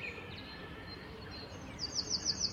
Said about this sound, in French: Le troglodyte. Alors comme ça, ça a l'air sympa, c'est un tout petit oiseau, hein. C'est comme le pouilleux véloce, quelques grammes. Quand il chante et qu'on est à 2 mètres, ça fait mal aux oreilles en fait.